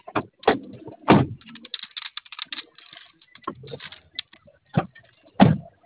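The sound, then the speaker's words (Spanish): A series of heavy, solid thuds as a vehicle's doors are slammed firmly shut several times at irregular intervals, with softer clicks and rattles in between; loud, no talking. “Necesito que cierre bien sus puertas, cheque su pila y sus fusibles, por favor.”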